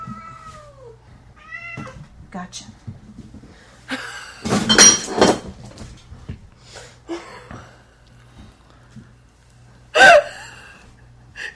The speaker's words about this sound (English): Even as the cat runs through our stash of, well, your stash of empty beer bottles. Oh, I think I heard a wine glass in there fall over, too.